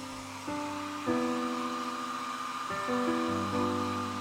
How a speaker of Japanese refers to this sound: あー、お兄ちゃんの高いドライヤーだ。やっぱり就職したらちょっぴり奮発できちゃうもんね。はあ、風のブワー感が全然違うお兄ちゃん最近髪がふわふわなのはドライヤーのおかげだったんだね。